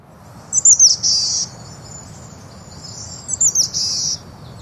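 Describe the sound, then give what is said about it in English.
A boreal chickadee calls twice, each time a few quick high notes running into a hoarse, buzzy drawl, over a soft, steady background hiss. “But the boreal does have a unique call.”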